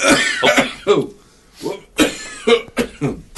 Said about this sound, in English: I love the fact that you can edit. I'm starting to collect some coughs. I'm going to just make a whole.